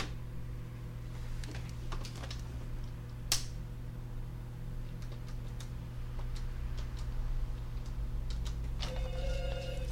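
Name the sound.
telephone ringing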